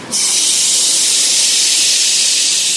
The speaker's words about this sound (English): Bringing the chi back in and making a large hissing sound.